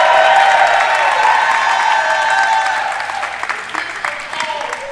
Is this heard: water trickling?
no